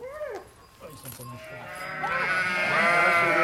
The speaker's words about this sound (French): C'est des brebis avec des agneaux là qui étaient venus sortir. Ils sont gros quand même, je pensais pas que c'était. Là, ils sont bientôt prêts.